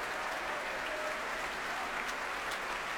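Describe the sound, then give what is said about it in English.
Sustained applause from a large audience in the Royal Albert Hall as conductor Barry Wordsworth comes back on and the orchestra stands, a dense, even wash of clapping filling the big hall with no pauses, steady throughout. “Barry Wordsworth coming back on to further great applause from our audience here in the Royal Albert Hall.”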